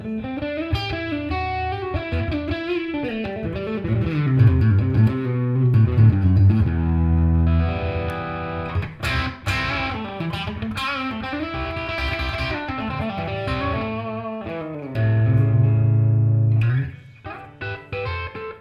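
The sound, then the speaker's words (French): An electric guitar with a gritty crunch overdrive, played through a modelling amplifier, plays chords and melodic runs, bending and ringing through, ending on a long sustained note. No one speaks. “On continue avec un peu de crunch.”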